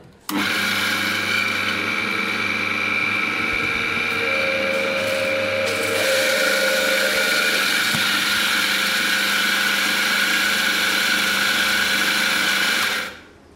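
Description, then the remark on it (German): An electric coffee grinder freshly grinds a portion of coffee beans for espresso, whirring steadily for about twelve seconds, a loud, buzzing motor drone with a gritty edge that starts abruptly and cuts off at the end. “Oder es gibt auch Einzelportionierer, wo ich überhaupt jede Menge, jede Portion frisch mahlen kann.”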